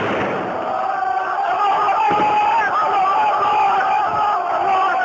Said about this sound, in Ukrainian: В Алеппо чути активну стрілянину та вигуки релігійних гасел.